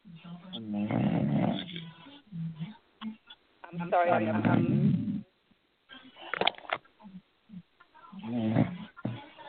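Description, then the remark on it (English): Someone sleeping on a shared phone line snores, with several loud, rasping, throaty breaths in an uneven rhythm through a narrow, muffled band, while a voice briefly speaks between them. “Someone's sleeping and there's some noise in the background.”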